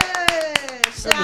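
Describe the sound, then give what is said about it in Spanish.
Steady hand claps, about one every quarter second, ring out sharply over a sustained voice whose pitch slowly slides downward. The clapping is moderately loud and regular. “¡Bravo! ¡Un aplauso!”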